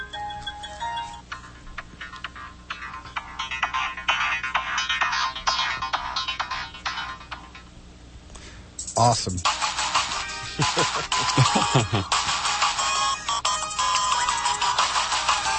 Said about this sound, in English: Oh, so the ringtones. Is the speaker on the phone itself? It's pretty tinny. Yeah, it's a little, it's better than my phone, but no, you have to hear it with the headphones so.